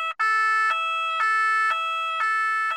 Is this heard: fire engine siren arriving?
yes